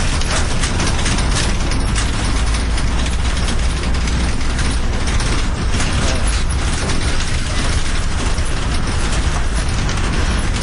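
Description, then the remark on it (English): Constant loud clattering and rattling inside a moving bus, metal parts creaking and knocking over a steady low engine rumble for the whole stretch, with no one speaking. “And then listen at the rattle of this bus.”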